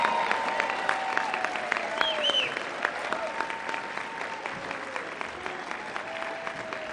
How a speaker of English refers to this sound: And so those people from the staff of the NFB, I would like you to give them a rousing round of applause to thank them for what they do.